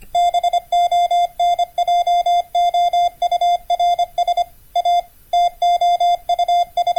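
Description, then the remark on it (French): Morse code beeps: a steady, fairly high-pitched tone keyed on and off in quick short and long pulses with brief gaps, loud and alone with no talking. “On a tous une vague idée de ce qu'est le code Morse, mais cette invention qui a révolutionné les moyens de communication porte le nom de son inventeur, Samuel Morse.”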